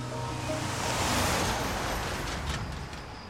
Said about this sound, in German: Am Abend auf einem Parkplatz am Rand einer Landstraße. Mit Gemüse und Obst beladene LKW auf dem langen, emissionslastigen Weg Richtung Nordosten.